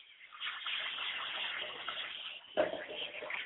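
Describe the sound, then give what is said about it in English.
Water is poured out onto the ground as a libation in a steady, splashing stream for several seconds, fairly loud, with a fresh gush partway through before it continues flowing. “I like to pour libations to the north, which is in Egypt, the direction of going up.”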